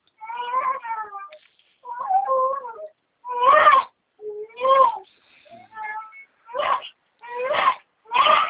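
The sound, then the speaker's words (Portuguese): A newborn baby girl, only days old, cries in a steady run of short, strained wails, about nine bursts with brief gaps between them, fairly loud with no one talking. “Tem um bebê, Adriane? minha neta.”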